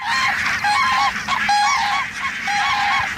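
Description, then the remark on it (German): A large flock of about 8,000 barnacle geese with greylag, bean and white-fronted geese honks continuously at the Kranorama observation station of the crane centre at Günz near Stralsund, Germany, many overlapping calls forming a dense, loud chorus with no pause. “Unter den rund 8000 Nonnengänsen und anderen Arten wie Weißwangen, Grau-, Saat- und Blässgänsen zählt Günter Nowald, der Leiter des Kranichzentrums, auch 14 Kraniche an der Beobachtungsstation Kranorama.”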